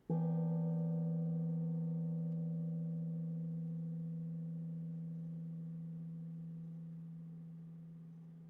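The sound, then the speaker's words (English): One meditation gong struck once to signal the beginning of a 10-minute formal meditation practice, its low, humming tone layered with shimmering overtones, ringing on and slowly fading over about eight seconds with no voices. “The sound of the gong will signal the beginning of formal meditation practice and will also be heard at the end of the practice.”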